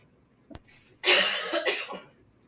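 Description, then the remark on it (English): A harsh, raspy cough, a single rough burst with a second push near its end, preceded by a faint click and otherwise quiet. “I swear, every time we do the podcast, I have such a bad cough.”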